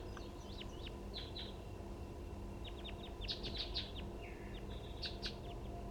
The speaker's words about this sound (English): There are more than one wild bird. Stop. Start recording. I think the wild birds are flying around again.